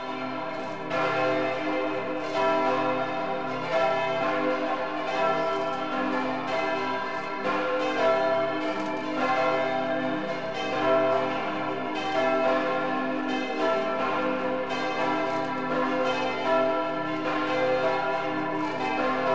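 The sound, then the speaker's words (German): Several bells of the Catholic parish church St. Nikolaus in Hall in Tirol, Austria, peal together continuously, a dense, overlapping ringing with strong sustained overtones and steady loudness, heard without any talking. “Die Glocken von St. Nikolaus in Hall klingen weit über die große, prächtige Altstadt hinaus, die zu den schönsten Österreichs gehört.”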